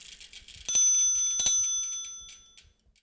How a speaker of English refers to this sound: Now, speaking of Hub and Spoke, let's hear that cute little bike bell and get going.